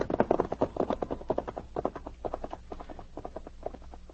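horses' hooves clip-clopping

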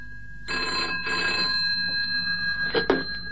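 telephone ringing

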